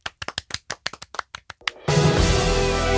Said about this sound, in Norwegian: Loppa er ukas tettsted. Vi klapper for det. Heia!